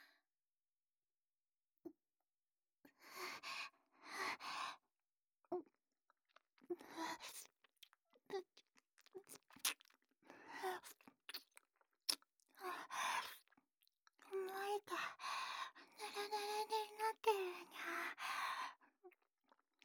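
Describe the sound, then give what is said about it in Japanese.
A person imitates a cat lapping with their mouth: wet smacking and slurping noises in irregular bursts and rapid clusters, fairly loud, separated by brief silences, with no talking. “そういうわけでアニマ猫ちゃんがピチャピチャ音をするにゃ。”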